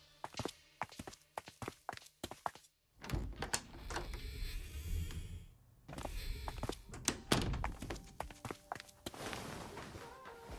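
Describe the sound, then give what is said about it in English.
Footsteps tap, then door 12 is handled with a series of wooden thunks and rattles as it opens and shuts, followed by more shuffling movement. “Follow me. Door 12.”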